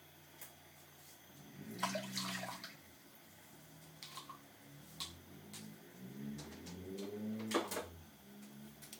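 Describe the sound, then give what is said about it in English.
Chicken stock pours steadily into a cooking pot after coconut milk, a soft splashing gurgle with a few sharper clinks and bubbling swells. No one speaks. “And the chicken stock.”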